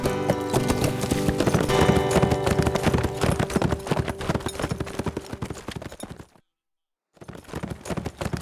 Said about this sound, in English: Swinging down to the trail, I gigged the tall gelding into a full run and gave him free rein.